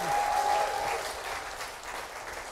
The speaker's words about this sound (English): So everybody give my wife a hand clap and say, we miss you.